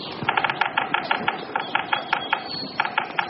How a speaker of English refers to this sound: A big woodpecker sounds, and then a flight of geese.